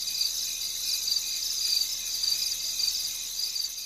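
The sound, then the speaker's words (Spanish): A steady, dense chorus of crickets chirping at night under a starry sky with a crescent moon, high-pitched and continuous with a faint pulsing rhythm, with guitar plucking heard among the crickets and no voices present. “Entre el sonido de los grillos se oye el punteo de la guitarra.”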